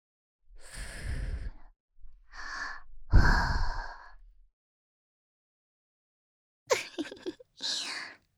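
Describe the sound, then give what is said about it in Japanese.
Slow, airy breaths blown softly into the listener's ear, three long exhales followed by two shorter, sharper puffs after a pause, breathy and hushed with no words. “耳に吐息吹きかけて、君の体がビクンビクンってしちゃってるよ。”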